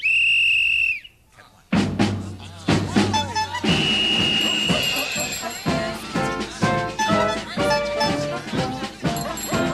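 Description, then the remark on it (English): A loud, sustained whistle blast, blown to start a birthday parade, rings out for about a second, then after a brief pause lively, bustling music bursts in and carries on, with a shorter whistle tone sounding within it. “I suggest that the birthday parade for Anna Platypus begin. Whistle.”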